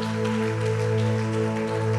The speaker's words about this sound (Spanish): Si vas a darle ese aplauso, házelo más fuerte a Jesús.